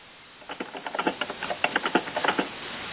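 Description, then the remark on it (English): Rapid, irregular typing on a keyboard during a conference call, a quick patter of key clicks lasting a couple of seconds, moderately loud over a faint background hiss, with no talking. “And I, apart from hearing some typing, I don't hear”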